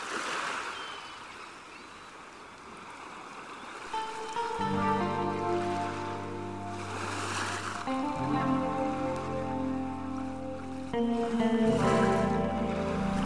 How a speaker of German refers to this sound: Still trieb das Segelboot auf das Festland zu. Kein menschlicher Ton war mehr zu hören. Nur das leise Geschrei von Möwen in der Ferne. Und das rhythmische Rauschen des Wassers.